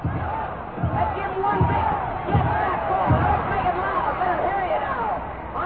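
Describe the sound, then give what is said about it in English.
The Wisconsin Badger cheering section at a football game against Southern California chants in unison, repeated shouts of "go" surging in a steady rhythm about once a second over a constant roar of crowd noise, loud and filling the stadium. “And the Badger cheering section sets up the howl of go, go, go.”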